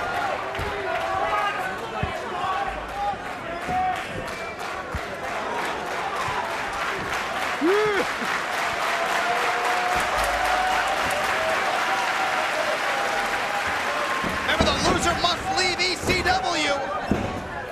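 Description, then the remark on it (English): A large crowd of wrestling fans at a match in Chicago roars and claps steadily throughout, with dense rhythmic applause, scattered shouts and whistles, and a surge of louder cheering near the end. Commentators talk over the noise. “Left shoulder up and listen to these fans here in Chicago.”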